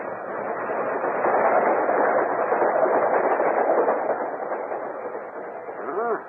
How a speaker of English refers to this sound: A few minutes later, the express train rushed by.